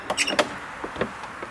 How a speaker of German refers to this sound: Ein altes Fachwerkhaus, das so aussieht, als gehörte es mal zum Kloster. Das Licht. Wir warten, dann öffnet eine Frau die Tür.